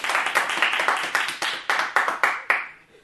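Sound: audience clapping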